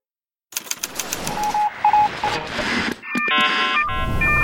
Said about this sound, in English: Are you hearing that car alarm that's going off somewhere outside? That's the human noise that interferes with finding the signals you care about.